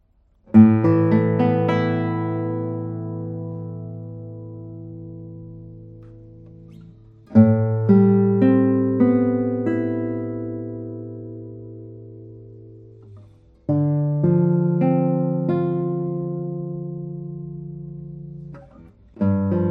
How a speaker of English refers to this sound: Well, I would say I will play a few tones on this guitar and see how it sounds.